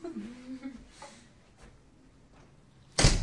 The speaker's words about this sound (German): Jetzt geht die Tür zu.